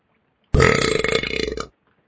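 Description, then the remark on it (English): A single loud, drawn-out belch with a sudden start and a rough, rattling texture, lasting just over a second before cutting off into silence. “So we'll give it Doofus Belch.”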